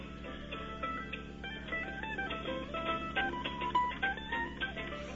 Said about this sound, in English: I'm in one of the soundproof rooms, and the guys are out picking in the other room. Why don't you, Hey, can you open the door and let's hear a little bit? I'll just open it just real quickly here.